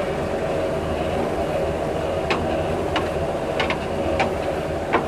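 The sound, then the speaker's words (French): A former agricultural grain mixer coupled to a Massey Ferguson tractor, out in the fields, churns hemp and lime steadily, a constant low mechanical rumble and drone with a few sharp rattles and clanks scattered through the second half, without any talking. “Là, on voit effectivement le moulin à grains qui mélange le chanvre et la chaux.”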